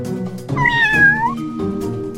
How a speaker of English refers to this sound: Meow. Yeah, keep it going. Keep it going.